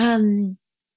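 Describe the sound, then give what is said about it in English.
A humpback whale whoop call: one loud, half-second tonal note with a low, steady pitch and rich harmonics, heard alone and cutting off abruptly into silence. “This call, I think, is one of the most important sounds that humpback whales worldwide produce.”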